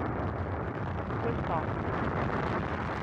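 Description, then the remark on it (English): A rocket launch with engine turbopumps at flight speed and engines at maximum thrust: a dense, steady, crackling roar that fills the whole three seconds at constant high loudness, with no breaks or pauses. “Engine turbo pumps at flight speed. Engines at maximum thrust.”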